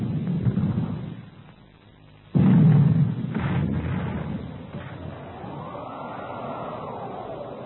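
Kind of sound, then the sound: sound effect, cannon fire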